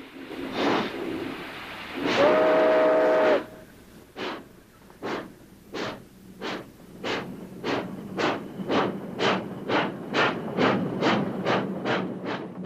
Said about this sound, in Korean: 화물기차가 평화로운 평원을 달린다. 그런데 증기기관을 엔진으로 단 열차가 냉각수를 보충하려고 잠시 정차한 사이 불황자 하나가 재빨리 기차에 올라탄다.